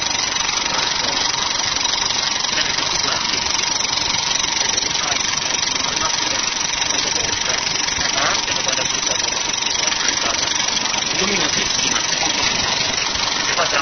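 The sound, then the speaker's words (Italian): A film projector mechanism runs steadily, projecting a trailer over a short distance of about 8-9 metres, a continuous loud whirring clatter with an even, unbroken rhythm from start to finish. “Stanza molto ravvicinata, io penso che siano un giro di 8-9 metri, mentre di solito la macchina cinematografica proietta una distanza molto superiore.”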